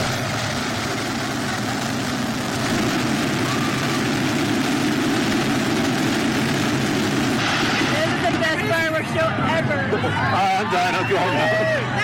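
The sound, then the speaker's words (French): A massive fireworks barrage goes off all at once as a continuous loud rumbling roar of overlapping blasts, with rising whistles and crowd noise emerging toward the end; a display meant to last 15 minutes fired all its fireworks together because of a technical problem. “Un feu d'artifice devait durer 15 minutes. Tous les pétards sont partis en même temps suite à un problème technique.”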